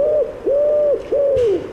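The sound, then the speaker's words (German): A pigeon coos, three smooth, sustained hoots rising and falling in a steady rhythm, with no one talking. “Die scheiß Taube.”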